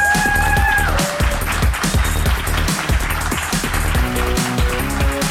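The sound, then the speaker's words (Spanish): Audience applause for the MindFacts show in Fuenlabrada, a dense steady crackle of clapping, mixed with loud upbeat music that has a pounding drum beat and sustained tones, with no one speaking. “Bienvenidos a MindFacts, donde cada semana buscamos los límites de la ciencia, de la tecnología y del aplauso que seáis capaces de dar ahora mismo.”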